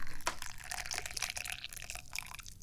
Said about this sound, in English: I'm pouring some tea right now.